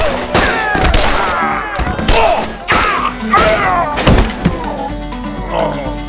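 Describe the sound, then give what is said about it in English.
Several sharp pistol shots ring out in quick, uneven succession in a saloon shootout between two men and three gunmen, loud, each burst followed by a short echoing tail, with shouting voices mixed in among the gunfire. “Smoke and Lewis, with smoking guns still in their hands, approached the three men, all three of whom were now prostrate on the floor”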